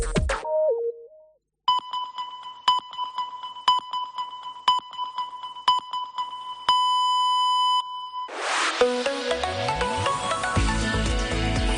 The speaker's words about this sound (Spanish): Senyals horàries de 2:15 del migdia. Som la teva COPE més propera, COPE Catalunya i Andorra.